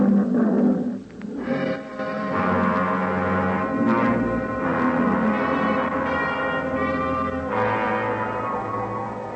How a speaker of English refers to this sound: Nobody answered me but an old Liban lion, so I shut up.